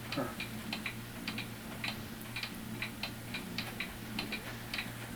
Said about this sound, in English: And I made that cuckoo clock hanging over there by that door, to the left of the door. I've made four of them.